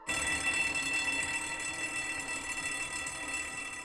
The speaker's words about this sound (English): I take off my shoe and break the glass. The fire alarm rings.